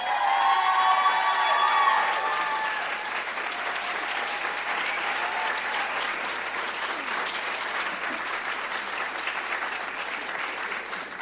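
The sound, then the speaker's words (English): An audience applauds steadily, a dense wash of clapping hands with a few whoops and cheers rising at the start before settling into sustained, even applause, welcoming a storyteller about to tell her story. “Please, a warm round of applause for Miss Kenya and her story, Little Miss Sunshine.”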